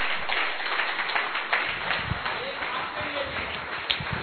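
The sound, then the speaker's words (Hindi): A crowd stands and claps steadily for everyone present, the applause forming a dense, continuous patter of many hands that holds at a moderate level throughout, with a few murmuring voices underneath. “और एक ताली मुझे लगता है आप सबके लिए, आप खड़े होके बजाओ सबके लिए, अपने लिए भी।”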